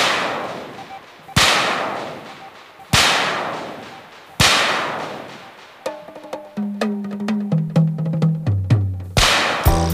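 Loud whip cracks snap out at steady intervals, each trailing off in a long echo, then a descending run of musical tones plays with more sharp cracks punctuating it.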